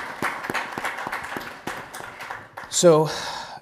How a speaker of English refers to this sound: So if we can just kind of give a round of applause for that.